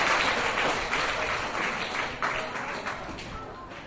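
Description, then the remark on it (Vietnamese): A group of children applauds to praise their own cleverness during a lesson, dense, steady clapping that continues throughout and fades slightly toward the end, with no talking over it. “Các cháu hãy dành tràng pháo tay để khen cho sự thông minh của mình.”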